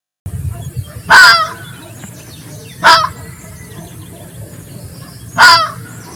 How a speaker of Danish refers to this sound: Fun fact. Ræven kan skrige, bjeffe og jodle.